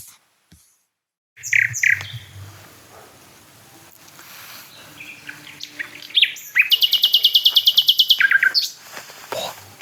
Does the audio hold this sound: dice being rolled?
no